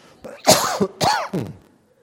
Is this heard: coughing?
yes